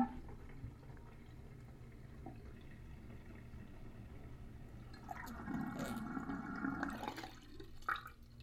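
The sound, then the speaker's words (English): Water drains out of a sink as a steady low rushing that builds into a louder gurgling swirl before stopping abruptly. No one speaks. “And I wonder what it sounds like being let out.”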